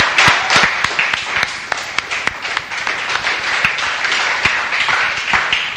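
Many people applaud steadily in a round of applause for a home group speaker, many hands clapping at once in a dense, continuous patter with a few sharper claps standing out, loud throughout.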